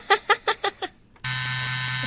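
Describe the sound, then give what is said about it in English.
Five quick, rhythmic vocal bursts, then a short pause, then a loud, steady electronic buzzer that drones without a break until the end. “I would buzz it 3 times.”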